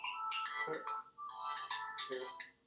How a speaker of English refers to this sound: Well, he has to answer your phone.